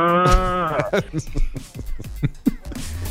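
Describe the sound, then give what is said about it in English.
A cow lets out a loud, drawn-out moo that lasts under a second, followed by a series of scattered knocks and thumps. “yelling no at the cows”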